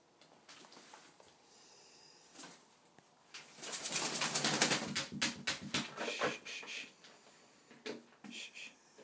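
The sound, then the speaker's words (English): Ringneck doves Cody and Princess give their laughing call, a quick run of soft, chuckling coos that swells in the middle and trails off in short bursts, fairly loud with no talking, as Cody tries to entice Princess into a game. “And that, what sounds like laughter, is actually their call.”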